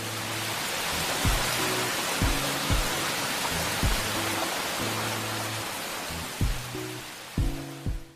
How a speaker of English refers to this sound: Then all the clouds changed into one big cloud and rained.